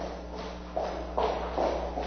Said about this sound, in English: Imagine walking down the street and hearing footsteps behind you. They get closer and closer, and suddenly you have a sense something bad is going to happen.